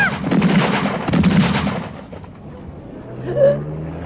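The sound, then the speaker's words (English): Two loud clusters of rapid gunshots crack out in quick succession, fired from a car by a man wearing a mask, followed by a lower rumbling hum and a brief rising tone as the firing stops. “Oh, my God, I'm shot.”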